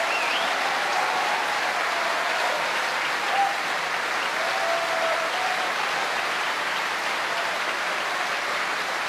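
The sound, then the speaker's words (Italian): An opera audience applauds steadily after Verdi's Otello as tenor Jonas Kaufmann, tonight's Otello, acknowledges the applause. A dense, continuous wash of clapping holds at the same level throughout, with no voices standing out. “Naturally stained with some blood as he acknowledges the applause”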